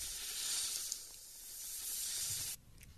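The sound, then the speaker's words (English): A sustained, loud snake hiss, bright and breathy, holding steady for about two and a half seconds before cutting off abruptly, with no voices present. “All right, let's snake it, Ricky.”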